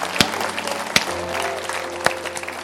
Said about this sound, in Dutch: Hey. Zullen we even applaus geven? Yeah! Halleluja!